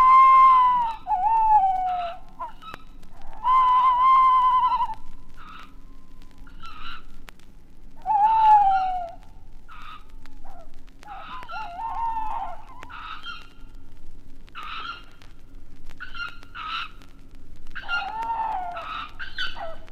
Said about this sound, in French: Mais la nuit tombée, des voix inquiétantes remplacent les chants mélodieux. Dans ce petit bosquet, habité par une famille de chouettes hulottes, les jeunes s'excitent au retour des parents qui ramènent sans doute une proie intéressante.